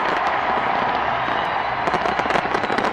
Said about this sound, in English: Seattle welcomed the new year this morning with a huge fireworks display.